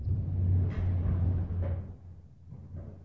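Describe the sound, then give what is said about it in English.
A door rattles and knocks a few times in gusting wind, brief clattering bursts over a steady low rumble, with no voices. “What is the door? It's making too much noise. The wind is disturbing the life airs.”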